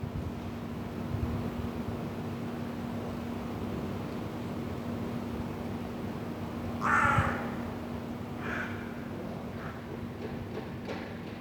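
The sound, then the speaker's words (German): Crows caw a few times in an old-building inner courtyard in Vienna's 1030 district, one louder call followed by fainter replies, over a steady background hum and hiss of urban air. No one speaks. “Seit einigen Wochen wohnen hier auch Krähen.”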